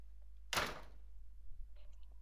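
A door swings shut with a single solid thud, fairly loud, followed by a brief rattle and faint shuffling.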